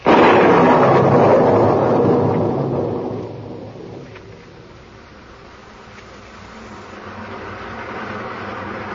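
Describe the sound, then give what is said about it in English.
A rainstorm on a wet street roars in with a loud, rumbling swell like rolling thunder, then eases into a steady hiss of falling rain that builds slightly again toward the end. No one speaks. “Down through the rain, down through the wet, glistening street he came”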